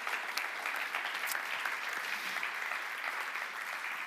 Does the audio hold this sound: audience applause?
yes